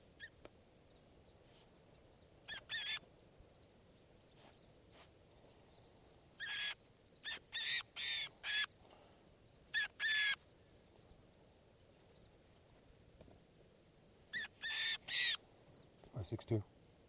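Short, harsh bird calls ring out in scattered bursts, some in quick pairs or triplets, over a low steady background hum, with quiet gaps between the groups.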